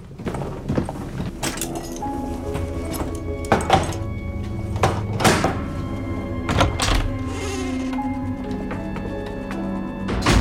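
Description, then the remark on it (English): A few heavy clunks and thuds, spaced irregularly, as bolts are drawn back on a front door in a gloomy corridor, with a steady musical drone underneath. “In the gloom of the corridor, she puts on a short check jacket and undoes the bolts on the front door.”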